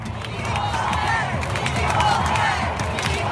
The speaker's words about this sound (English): But it was a moment that was special, in particular for the superstar Megan Rapinoe, who scored one of the team's two goals for the win. Listen to this crowd as America secured the win.